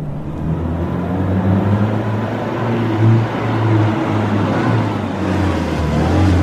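A car that had earlier been parked in front of a prison pulls up, its engine a steady low rumble with a faint rise in revs midway, running continuously with no voices.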